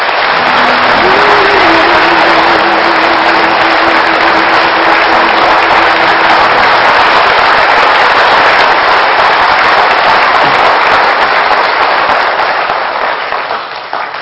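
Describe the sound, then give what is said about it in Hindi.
A large audience claps loudly and continuously, a dense roar of applause that holds steady for about fourteen seconds before tapering slightly at the end, with a faint sustained tone beneath. “और तीसरा कारण, इतनी जोर से तालियां बजाएंगे कि हमारी तालियों की गड़गड़ाहट उस ईश्वर तक टच हो जाए।”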